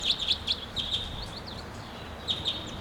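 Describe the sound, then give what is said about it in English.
Sharp, high chirping calls of a wild crossbill, a red male perched in the top of a tall tree, at 7:35, repeat in quick bursts, a few notes at a time, over steady soft background hiss with no talking. “Now it's 7:35, and there's a wild crossbill here.”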